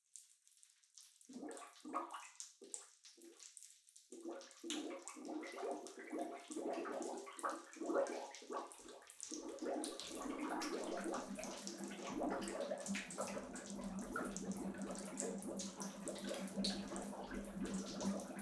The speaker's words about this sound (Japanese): ほーら、もこもこパチパチ泡ができてきた。これで濡れても何にも見えませんよ。